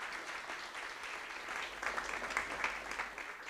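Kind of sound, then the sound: crowd, audience clapping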